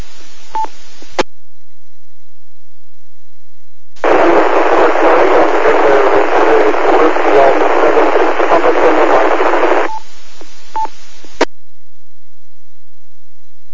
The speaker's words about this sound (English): Real scratchy there. Whiskey Alpha 7, can you try again? I've got your prefix of Whiskey Alpha 7. I need your suffix. Can you give me another try?